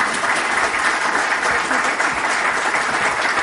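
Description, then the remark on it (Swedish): Sustained audience applause: dense, steady clapping from many hands filling the whole stretch at a fairly loud, even level, with no pauses or voices standing out. “Och ni ger en stor varm applåd.”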